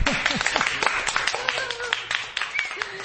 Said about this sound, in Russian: Думаю, что к этим аплодисментам присоединятся и радиослушатели. Наши радиослушатели.